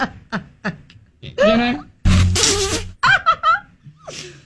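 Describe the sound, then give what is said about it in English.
A loud, buzzy recorded dog fart sound effect blasts for about a second in the middle, framed by people laughing and snickering before and after it. “right now, I have a small but growing collection of animal fart noises. Gorilla, deer, and dog.”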